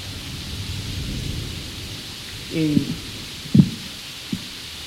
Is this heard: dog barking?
no